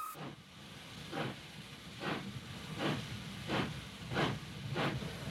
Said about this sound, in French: Ah, écoutez ce son qui est doux à nos oreilles. Eh bien oui, évidemment, c'est la machine à vapeur.